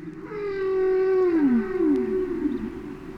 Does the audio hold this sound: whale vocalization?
yes